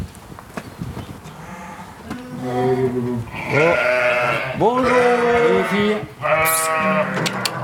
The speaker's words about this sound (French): combien de brebis, là, dans les tables? Là, il y en a 130 à peu près. 130. Quasiment tout le cheptel.